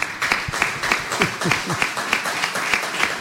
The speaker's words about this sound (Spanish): vamos a darle un aplauso también.